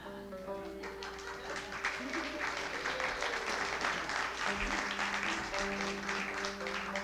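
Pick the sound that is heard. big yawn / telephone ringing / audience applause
audience applause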